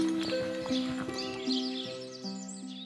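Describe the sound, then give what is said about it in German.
Mulan's horse, Black Storm, whinnies while hooves clip-clop in a quick, uneven rhythm, moderately loud, over a steady background of sustained musical tones. No one speaks. “Mulan hat auch ein Pferd, Schwarzer Sturm.”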